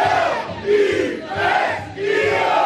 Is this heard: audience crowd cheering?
yes